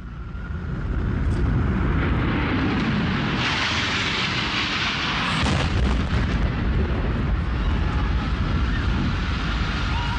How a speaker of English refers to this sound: United 175 crashes into the South Tower of the World Trade Center.